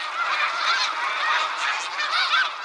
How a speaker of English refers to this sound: There's always something to listen for. Signs of life. Geese flying overhead. Like these snow geese.